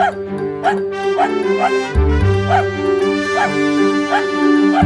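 A dog barks repeatedly in a steady rhythm, roughly twice per second, over a loud sustained tonal backing that sounds musical.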